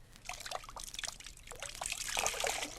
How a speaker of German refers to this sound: Ich nehme sogar einen viel kleineren Stein und werde mehr Wasser herausdrücken.